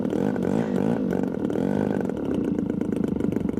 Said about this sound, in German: Ein Drohnenflugzeug hebt ab. Der Prototyp kann bis zu 140 Kilometer pro Stunde erreichen, ist aus Verbundwerkstoff und wiegt keine 20 Kilo.